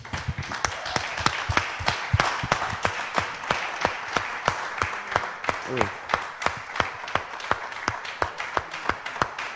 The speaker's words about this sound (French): Da un fuerte aplauso al Señor. Applaudissons le Seigneur.